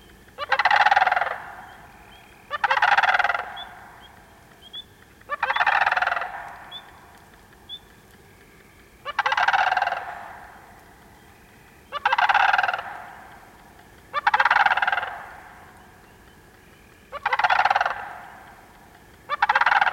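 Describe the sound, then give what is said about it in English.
Loud, rolling guttural rattling calls of a sandhill crane repeat in a steady rhythm, about eight harsh bursts spaced a couple of seconds apart, with no other sounds around them. “At night, sandhill cranes roost quietly in remote locations, but may suddenly break the nighttime calm with rattling guttural calls that echo across the landscape like ancient cries from a prehistoric age.”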